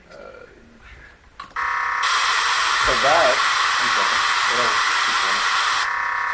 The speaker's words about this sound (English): Yeah, that buzzing was data in FM mode. Keep in mind, all kinds of stuff on the air.